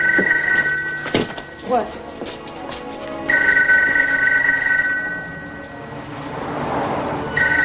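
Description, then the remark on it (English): A telephone rings in loud, trilling bursts: one at the start, a longer ring midway, and another just beginning at the end, with muffled background noise and movement in the gaps. “One of them is holding a phone to his ear.”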